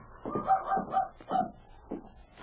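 A dog, Rags, whines and whimpers outside a cabin door during a windy storm, in a few short, pitched bursts with brief pauses between them and no one talking.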